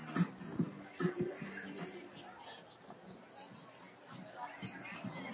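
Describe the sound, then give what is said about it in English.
A football crowd cheers West Valley's 65-yard touchdown run, a few loud voiced shouts at the start giving way to a steady, muffled roar of many voices. “And you can hear the crowd enjoying that here.”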